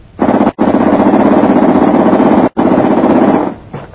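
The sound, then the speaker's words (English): A British government propeller plane's engine drones loudly and steadily, its low roar carrying a rapid throbbing pulse, with two brief dropouts before it fades slightly at the end. No one speaks. “Jim, listen, what's that? Look, a plane.”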